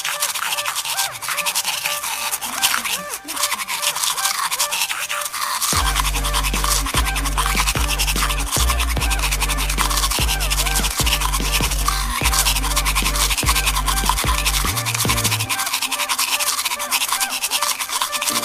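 Steady scrubbing of a toothbrush, a bristly scratching rasp that runs continuously, joined midway by a low motorized hum with brief regular dips, and no talking.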